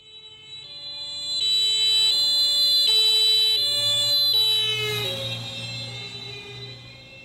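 A two-tone emergency vehicle siren alternates steadily, swelling louder as it approaches, then drops noticeably in pitch as it passes by, trailing off over a low road rumble.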